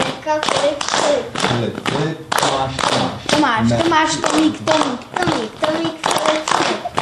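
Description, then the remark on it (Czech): Rhythmic hand clapping from the Czech clapping game "Tleskačka", quick loud slaps in a repeating pattern, with children's voices chanting or talking along throughout. “Jdem si zahrát tu hru, která, jak se jmenuje ta hra, kterou si zahrajeme? Tleskačka.”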